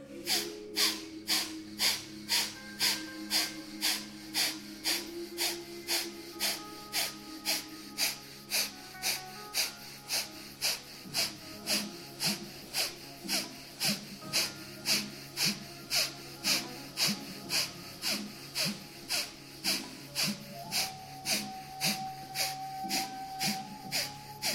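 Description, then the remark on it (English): Rapid, forceful Kapalabhati yoga breaths, a round of 36 taken after breathing in halfway: a long steady train of sharp, hissy nasal exhalations about every half second, with a faint tonal drone underneath and no talking. “Breathing in halfway and Kapalabhati for 36.”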